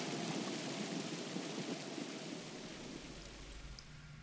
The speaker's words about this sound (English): and it still rains, and the wind still howls